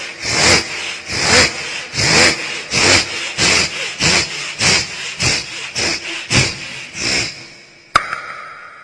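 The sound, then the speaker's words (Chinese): A performer doing vocal mimicry imitates a saw cutting wood: about a dozen steady, raspy back-and-forth strokes in a quick even rhythm, loud, ending with a sharp click. “那现在呢，我们说一个这个鸟叫和这个拉锯已经学完了，那我这个把这个快板送给大家吧。”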